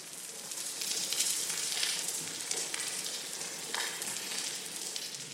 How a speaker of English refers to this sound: But coral reefs are disappearing. If you were to go to most coral reefs today, you'd hear something like this.